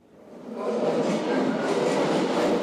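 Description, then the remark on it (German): A train rumbles through the Osloer Straße underground station in Berlin, Germany. Its noise swells quickly and then holds steady as a loud, broad roar with faint rhythmic rattling in the echoing space. “Ein Rollstuhlfahrer dämmert auf dem U-Bahnhof Osloer Straße vor sich hin.”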